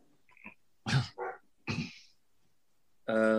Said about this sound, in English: My neighbor's dog starts barking. That goddamn dog knows whenever I record anything because that's when he starts barking.